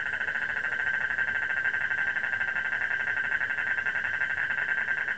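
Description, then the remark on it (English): A dense chorus of frogs calling at night to attract mates trills on without pause, a steady high-pitched wall of rapid pulsing calls with no voices over it. “But in a time of stress and pandemic blurs day, there is something soothing about the cycle of seasons rolling on and its orchestra of frogs.”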